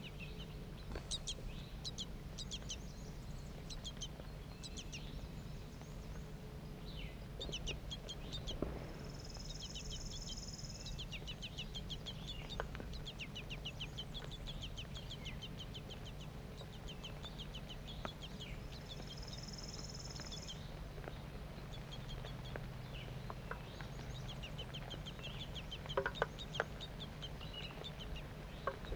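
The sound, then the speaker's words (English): Two juvenile and two adult birds call continually in sharp, high chirps and short twittering notes, some thin and insistent like begging young. Two buzzy insect trills rise briefly over a steady low hum. “Two juvenile birds and two adults.”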